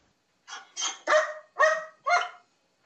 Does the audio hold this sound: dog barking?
yes